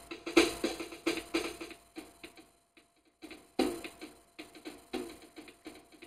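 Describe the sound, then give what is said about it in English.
A Clavinova digital piano plays quiet, relaxing music, a steady run of plucky, repeated notes with a regular rhythm. The sound is fairly soft, with brief pauses between phrases and no voices. “By the way, that's a clavinova for those of you who are wondering.”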